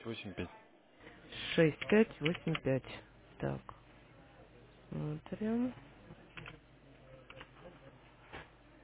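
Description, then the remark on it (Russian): Scattered clicks of typing on a computer keyboard come in short bursts as a phone number is entered, interleaved with a person talking. “Ой, подождите, не печатает.”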